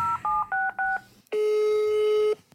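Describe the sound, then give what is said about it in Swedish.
A phone call to a friend is dialed: four quick two-tone keypad beeps in a steady rhythm, then a brief pause and a single long, steady ringback tone, clear with no talking. “Nu ringer vi henne.”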